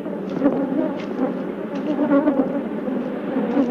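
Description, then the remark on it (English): A dense, agitated buzzing of a swarm of attacking killer bees around a hive fills the air continuously, with overlapping whines rising and falling throughout and no voices. “Even as Dr. Gary left the hive area, the bees persisted in their attack.”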